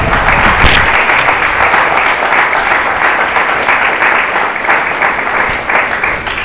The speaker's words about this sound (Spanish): Aleluya, den aplauso al Señor.